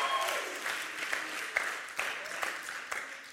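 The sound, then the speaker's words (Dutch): Steady applause from an audience giving a round of applause for Jesus during a sermon, dense overlapping claps filling the whole stretch at a fairly even loudness, with a few sharper individual claps standing out. “Come on, geef hem een goed applaus vandaag.”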